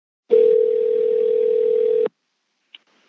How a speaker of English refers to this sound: I take a deep breath and dial.